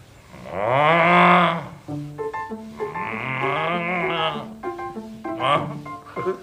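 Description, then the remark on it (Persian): A crow imitates a cow: a loud, drawn-out cow-like moo, followed by a string of shorter, wavering moo-ish calls copying a cow's lowing. “تارت دیدی کلاغ صدای گاو دراره؟”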